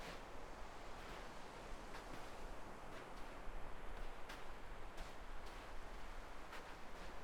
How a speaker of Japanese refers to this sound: 波の音も綺麗だし、いつまでもこうやって歩いていたい気分。